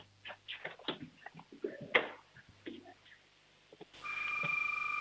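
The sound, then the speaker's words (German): A six-year-old boy from Schwaz in Tyrol imitates a doorbell with a few quick sung, tonal bursts, one ringing note standing out near the middle. A steadier, brighter sound takes over at the end. “Auch das ist eine tolle Türklingel, hier kommt ein Applaus.”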